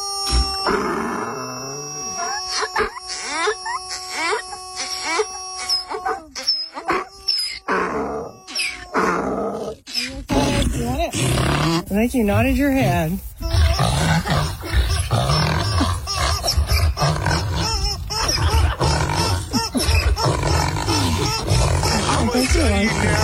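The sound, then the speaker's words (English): A blue rubber screaming chicken toy lets out a string of shrill, harmonic squeals, followed by loud, ragged braying and grunting from a donkey that continues steadily, with people talking briefly in between. “I don't know which one was the donkey, which one was the rubber ducky,”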